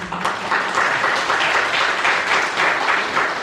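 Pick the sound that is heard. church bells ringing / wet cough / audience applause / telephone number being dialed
audience applause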